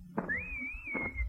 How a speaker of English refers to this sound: No, you shouldn't have done that. You shouldn't have whistled. The doctor warned me. I'm a taxi. Every time I hear a whistle, my motor starts.